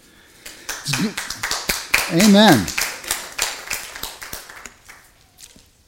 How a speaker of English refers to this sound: One thing about clapping here is we don't like to clap for ourselves or for any human effort, but we will clap for God and we will clap for Jesus Christ. But if we're going to clap for Jesus Christ, we're going to do a thorough job of it.